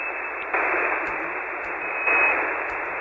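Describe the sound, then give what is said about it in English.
A radio receiver hisses with steady band-limited static while being tuned, the noise jumping in loudness twice and faint clicks and blips passing as the dial moves across frequencies. “But I can tune up. And let me try doing that. Going through the frequencies here.”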